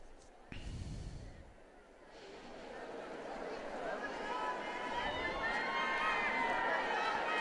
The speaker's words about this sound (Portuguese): pediu aplausos, então, aos carabinieri, que estão em processo de formação, eles que são de Velletri, que é uma cidade próxima a Roma, pedindo, então, um aplauso a esses que servem, então, servem à pátria e também à comunidade civil.